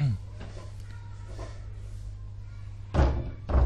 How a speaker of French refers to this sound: Fermez la porte.